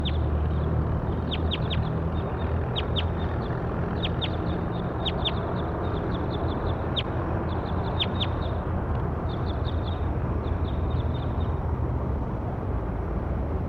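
High, sharp bird calls repeat in quick clusters of short chirps throughout, over a steady, loud low rumble of background noise. No one speaks.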